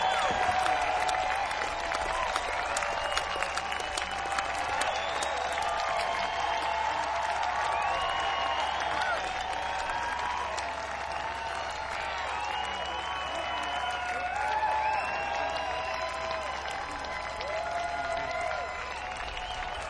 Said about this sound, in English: They will be back tomorrow, ladies and gentlemen, and they appreciate the fine applause that you've given them.